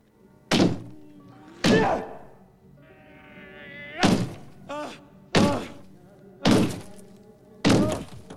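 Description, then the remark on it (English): A man punches a wall with his left fist again and again: about six heavy thuds at uneven intervals, with a strained, rising vocal groan in the pause between the early blows. “The man punches his left hand at the wall.”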